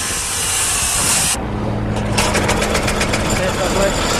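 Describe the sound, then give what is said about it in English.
A four-cylinder 1.6-litre car engine weighing 280 pounds, used as the power source for a cutter bar, runs, starting amid a harsh hiss and then settling into a steady, loud low drone with a rapid rhythmic pulsing. “It's a healthy four-cylinder 1.6-litre power source for your cutter bar, weighing in at a massive 280 pounds.”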